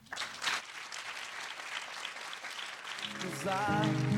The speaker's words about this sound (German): Mit diesem Applaus gehen wir nahtlos über.